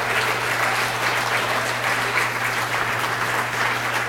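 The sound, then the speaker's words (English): Steady, dense applause from an audience for a pianist fills the whole stretch, a broad crackling wash of many hands clapping at once with no pauses and no voices standing out. “Can we please a rounding applause”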